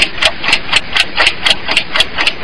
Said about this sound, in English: Enough with the sound effect. It was a clock, okay, right? Yeah, it was a clock.